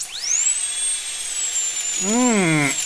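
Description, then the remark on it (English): A high-pitched dental drill whines steadily, its pitch sliding upward as it spins up, then a person's pained, wavering voice groans beneath it near the end. “The words, next, the dentist will see you now, are as welcome a sound as the high-pitched whine of the dental drill.”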